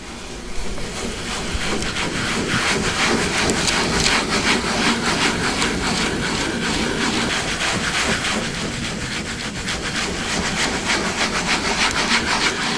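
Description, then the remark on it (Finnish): A ball burnisher rubs Japanese paper laid over an inked woodblock, transferring the ink from the block to the paper, in quick, continuous back-and-forth strokes. It makes a steady scratchy friction sound at even loudness, with no talking. “Sitten tämmöisellä kuulavaarinilla hiertimellä hierretään tämän paperin läpi niin, että se väri siirtyy siitä laatalta siihen paperille.”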